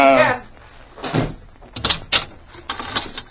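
A barred jail cell door in a sheriff's jail slides and slams shut with a heavy metallic clang, followed by several sharp rattling clanks as the bars settle and the lock catches.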